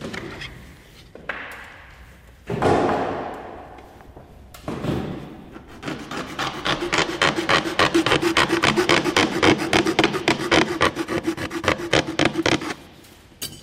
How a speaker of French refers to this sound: Et là, vous faites quoi exactement? J'adapte qu'on puisse mettre les vis sur le cône d'hélice. C'est un accessoire qui est esthétique et un peu aérodynamique, mais il faut l'adapter sans que ça amoche l'hélice. Et vous faites ça à la lime, à la main?